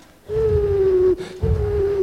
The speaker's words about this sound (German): Ein Uhu. Wieso ist er nicht in seiner Tube?